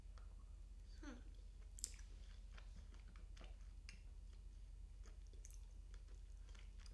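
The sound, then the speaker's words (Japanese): Wet chewing of a mouthful of pasta, with soft irregular smacks and squelches repeating steadily over a low background hum; no one speaks. “もぐもぐもぐもぐ、食べるのが早いからちゃんと噛まないとダメですね。”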